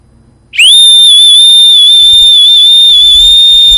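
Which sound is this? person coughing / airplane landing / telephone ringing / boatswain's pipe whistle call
boatswain's pipe whistle call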